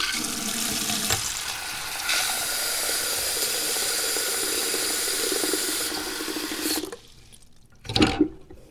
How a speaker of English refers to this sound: Now, just for you, Joe, I'm going to go in the bathroom and run some water.